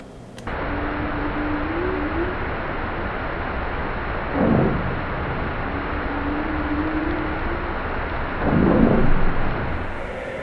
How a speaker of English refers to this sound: And you can hear a humpback whale, and then disrupted always by these explosions.